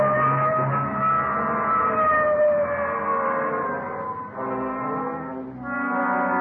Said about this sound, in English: Okay, hit the siren. Let's move.